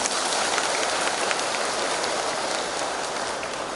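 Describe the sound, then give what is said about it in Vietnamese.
A crowd applauds steadily at a New Year Dharma talk, many hands clapping in a dense, even wash of sound that holds the same loudness for a few seconds, with no voices. “Cho nên cảm ơn tiếng vỗ tay làm cho tôi thẳng lưng chánh niệm nghe pháp thoại đầu năm.”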